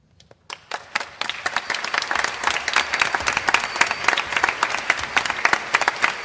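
A crowd bursts into applause to show they believe in fairies, starting with a few scattered claps and quickly swelling into dense, sustained clapping from many hands that stays loud and steady to the end.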